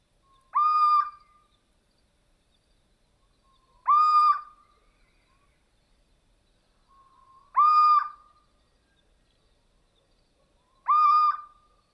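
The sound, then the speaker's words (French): A solitary, stocky owl perched motionless on a tree branch, staring, gives four plaintive, mewing calls, each a short nasal wail about three seconds apart, clear against a quiet background with no talking. “Il est là, immobile depuis un bon moment, et regarde fixement tout en émettant son cri particulier qui sonne comme un miaulement plaintif.”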